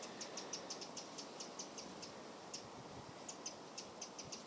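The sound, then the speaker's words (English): A wren sings in the morning in quick bursts of high, bright ticking notes that repeat in a rapid rhythm, fairly faint and set against a steady outdoor hiss, with no voices. “It's either Mr. or Mrs. Wren. The first song you heard was when it was singing its sweet song.”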